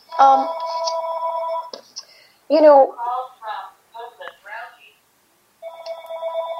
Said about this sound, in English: Creating a buzz has become harder than ever because other phone is ringing. I'm so sorry about that,